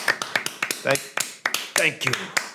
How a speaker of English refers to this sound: Oh, are you doing your loud clap again that everyone hates? Oh, my God.